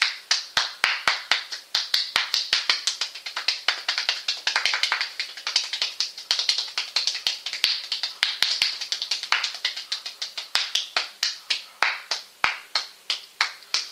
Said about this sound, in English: And you will get tired after a while when you clap. So don't expect that you can do it for a whole minute straight.